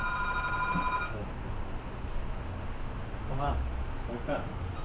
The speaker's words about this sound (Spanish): Toma. El teléfono.